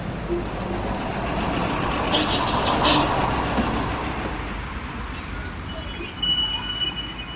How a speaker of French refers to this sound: Dépêche-toi, le bus arrive, on va le rater.